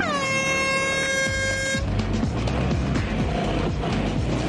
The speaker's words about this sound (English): Teams, on the sound of the hooter, prepare to launch your aquatic scooters!